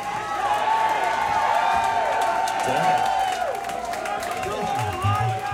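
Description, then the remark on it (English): A large crowd cheers and shouts steadily throughout, with scattered whoops, whistles and possible clapping rising above a dense wall of overlapping voices, loud. “The crowd, man, the crowd.”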